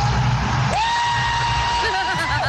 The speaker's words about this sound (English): How does that voice match that man's scream?